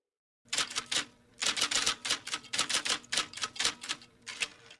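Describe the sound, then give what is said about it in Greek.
Busy, rapid, nervous scratching of pens mixed with frantic mechanical clicks from tape recorders, in a hush as a speaker talks from a rostrum, coming in dense bursts with short pauses, steady, with no voices. “Το μόνο που ακούγεται πλέον είναι το νευρικό τρίξιμο των στυλό και τα φρενήρι κλικ των μαγνητοφώνων.”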